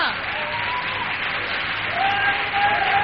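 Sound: audience applauding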